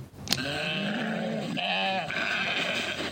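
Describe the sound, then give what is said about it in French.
Sheep bleat repeatedly, with overlapping wavering calls from several animals amid the steady hubbub of a busy livestock market in Bamako on the eve of Tabaski; no one speaks. “Et nous allons parler d'un élément très important, celui du mouton.”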